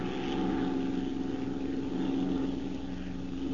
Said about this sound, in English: Hey, there's Bryce's plane now. Where? There it is. See it? Oh, yeah.